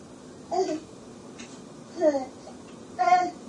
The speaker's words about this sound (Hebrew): הוא בוכה מאוד מאוד.